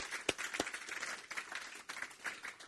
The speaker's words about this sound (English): I just say we give a nice clap for these kids. Good answers.